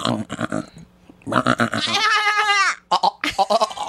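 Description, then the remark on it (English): A person imitates a goat with a loud, wavering, nasal bleat lasting under a second, surrounded by bursts of close conversation and laughter. “taught me how to do the goat.”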